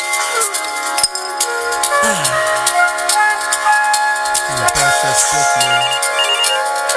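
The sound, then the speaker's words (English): A telephone rings with a loud, melodic electronic ringtone, repeating its bright tonal phrases continuously for several seconds, clear with no one speaking. “Well, I was just having my smoke break, and then the phone rang and said anonymous, so I picked it up like who goes there?”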